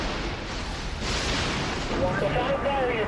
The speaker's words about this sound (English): With no brakes, the aircraft hits the pavement at full speed. The wing barely catches on the ground, causing the plane to skid off the runway and explode in flames.